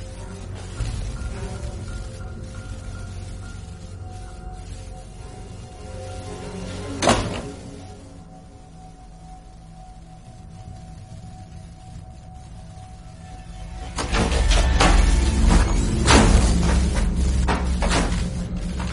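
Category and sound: household object, door opening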